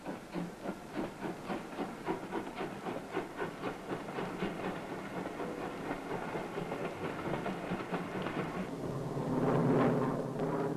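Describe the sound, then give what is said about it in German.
A train used for a military advance rolls steadily along the railway north of Otta, Norway, with a rhythmic clickety-clack of wheels over rail joints, mixed with hissing, growing into a louder rushing rumble near the end. No one speaks. “Nördlich von dem hartnäckig verteidigten Otta ist die Eisenbahn weniger zerstört als die Straße. Sofort wird sie für den Vormarsch ausgenutzt.”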